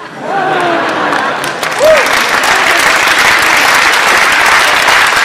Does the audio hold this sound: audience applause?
yes